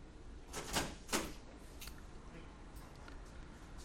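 A door is opened for someone coming in, with two quick rattling clicks of the latch followed by a softer knock, all fairly quiet against a steady background hiss.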